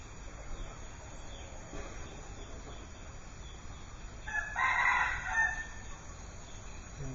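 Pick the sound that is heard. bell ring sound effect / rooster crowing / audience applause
rooster crowing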